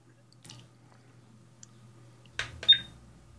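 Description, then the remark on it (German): A new instant camera's shutter clicks sharply twice as a photo is taken, followed by a brief high mechanical whir as the camera begins printing the photo, after some faint handling noise. “So, ich habe fotografiert, die Kamera druckt das jetzt aus.”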